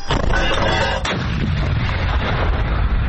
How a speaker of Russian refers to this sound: Ми стріляли на 1000 метрів. Це робиться для перевірки гармати. Тобто ми ці танки тільки отримали. Вони буквально 3-4 дні назад приїхали до нас. Самі ці, що стріляли, вони просто перевіряються гармата і перевіряється кучність ураження цілі.